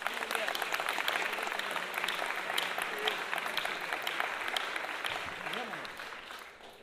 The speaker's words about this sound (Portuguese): Salve de palmas aí pro compositor.